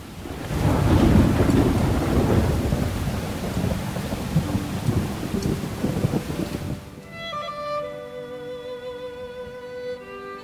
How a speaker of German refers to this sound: Da fallen die ersten dicken Tropfen vom Himmel. Der Wind wird stärker.